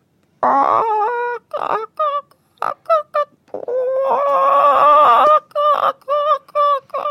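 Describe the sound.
A person imitates hens clucking, with a long run of loud, nasal cackles and squawks in uneven bursts, including one drawn-out warbling stretch, and no ordinary speech.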